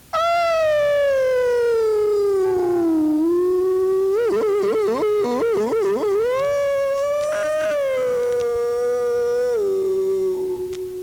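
A lone voice sings a musical yodel in long, sustained tones, sliding down in pitch, then breaking into a quick run of warbling flips before settling into a held note, all washed in echo that comes from the natural echo of the terrain, not a mechanical echo.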